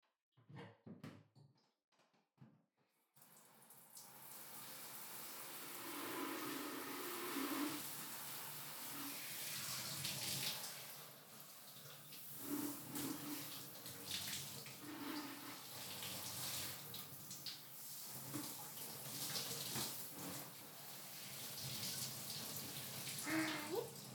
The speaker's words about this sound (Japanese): じゃあまずはシャワーでお兄さんの体流していくよ。